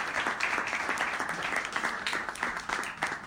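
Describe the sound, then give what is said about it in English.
A soundboard applause sound effect: a steady round of applause from a crowd, with dense overlapping claps and a few brief cheers, holding constant loudness throughout without fading. “Round of applause soundboard.”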